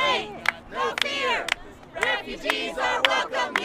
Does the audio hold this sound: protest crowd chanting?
yes